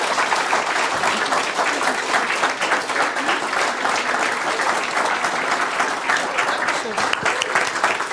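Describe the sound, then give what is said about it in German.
Sustained applause from a large audience for a group being thanked, a dense, steady wash of many hands clapping at a constant loud level for several seconds without letting up. “Ihr kriegt jetzt nochmal einen großen Applaus und dann könnt ihr euch wieder setzen.”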